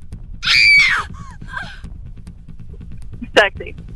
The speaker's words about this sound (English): Yeah, the end definitely sounds sexy. That was a scary scream. Ooh. Can it be both? It could be a scary sexy.